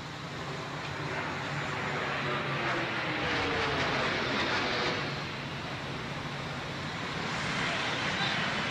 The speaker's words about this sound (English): It was 8:46 in the morning. And then we heard a plane come over, and in Manhattan, you don't hear planes too often, especially loud ones.